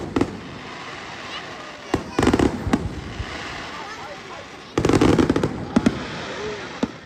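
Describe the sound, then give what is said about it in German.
Fireworks explode in a rapid, crackling series at the Eichstätt Volksfest, a large display over the slopes of the Altmühl valley: sharp bursts and sputtering pops come in clusters around two and five seconds, with a steady rumbling wash of noise between the volleys. “Zu den Attraktionen des Eichstätter Volksfestes gehört auch ein großes Feuerwerk über den Hängen des Altmühltals.”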